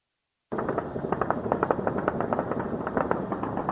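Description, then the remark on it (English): Dense, rapid bursts of celebratory gunfire crackle continuously, fired into the sky over Beirut, Lebanon, by residents shortly after midnight to celebrate the start of a truce between Lebanon and Israel, many shots overlapping, with no voices. “The sound of gunfire erupted over Beirut shortly after midnight Friday, but as gunfire goes, this was good gunfire, aimed not at people but at the sky, by residents celebrating the beginning of a truce agreement between Lebanon and Israel.”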